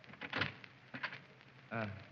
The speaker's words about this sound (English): Now, let's try the door. Oh, it's not locked.